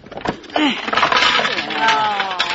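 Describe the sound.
A medicine chest's contents come crashing out as its sticking door is forced open: a loud, continuous clatter of many small objects tumbling and rattling for a couple of seconds, with voices audible underneath.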